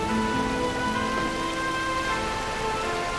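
Steady rain pours down with a dense, even hiss throughout, with soft sustained musical tones beneath it. No voices are heard.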